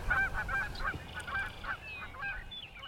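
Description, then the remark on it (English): Canada geese coming in at a pond honk repeatedly in overlapping calls, a lively chorus over a low outdoor rumble, with no talking. “We've got some Canada geese coming in.”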